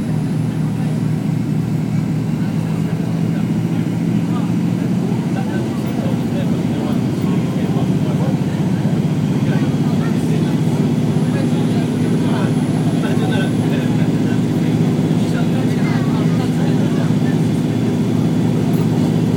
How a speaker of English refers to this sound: Now it does feel as though we're fairly steady. I don't know whether that means we've stopped. Certainly the engines are thrusting away underneath still. And we're sinking.